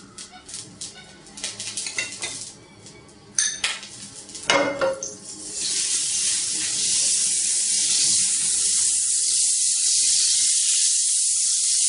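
A few clinks and scrapes of pans and utensils, then a steady, loud, high hissing sizzle of butter and olive oil in a pan on medium heat for shallow frying chicken pieces, continuing unbroken to the end.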